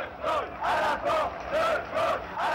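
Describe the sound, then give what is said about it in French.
A large crowd of student and worker protesters in Paris chants slogans in unison criticizing government policy and demanding ministers resign, loud voices rising in regular, pulsing bursts about twice a second over a steady roar, with no single speaker audible. “Les manifestants, étudiants et ouvriers, ont scandé des slogans critiquant certains aspects de la politique du gouvernement et demandant la démission de certains ministres.”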